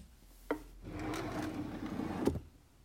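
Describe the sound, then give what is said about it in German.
A wooden knock, then a stretch of scraping and sliding as a wooden drawer is pulled and searched for an old concert poster, ending in another sharp wooden clack. Fairly quiet, with no talking. “Warte, ich habe das hier in der Schublade irgendwo.”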